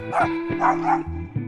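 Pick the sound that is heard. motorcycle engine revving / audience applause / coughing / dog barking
dog barking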